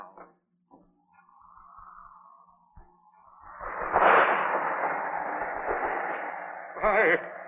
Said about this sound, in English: Look! The storm is increasing again. It sounds almost as if the voice of the heavens is protesting.